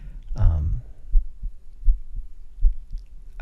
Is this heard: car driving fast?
no